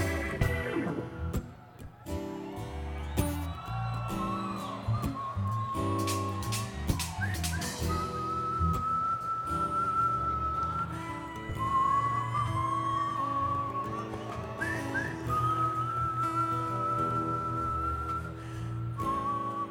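A person whistles a sustained, gliding melody over a steady band backing of chords, bass and percussion, the clear whistled tone riding loudly on top for the whole stretch.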